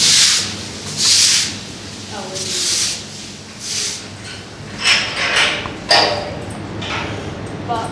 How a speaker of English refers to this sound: an army of keen trainee zookeepers are giving this place a good scrubbing. All the white suds have now started to turn brown as we get through to the real dirt on the tiles. Lovely stuff. I hope these Red River hogs appreciate all our hard work.